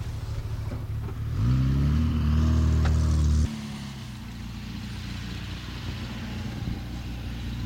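A rally car arriving at the stage revs with a rising, harmonic roar for a couple of seconds, then drops to a steady, rumbling idle that continues to the end.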